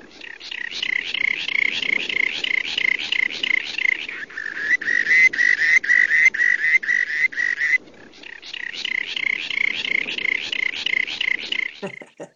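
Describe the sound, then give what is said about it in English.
A rock sandpiper gives a long, rapid, rattling trill of buzzy pulsed notes, fairly high and loud, repeated in three sustained bouts with brief breaks, ending in a short sharp note. “So our last bird this week that you selected is the rock sandpiper, and it's a little more melodious than the first two, thank goodness.”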